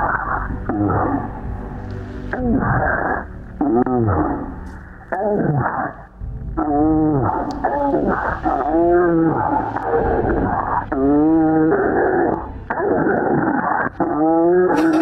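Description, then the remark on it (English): Deep, drawn-out grunts played back in slow motion as a sports-style action replay, with a warped, bending pitch like low moaning roars, repeating in long swells with brief pauses between them. “What about if we were to play this music still? Or slow-mo the grunts?”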